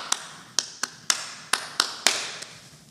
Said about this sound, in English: One of the things, if you get to go to Uganda, and I hope you do one day, they have all kinds of ways of welcoming you. And one of the things that they do is they clap three times.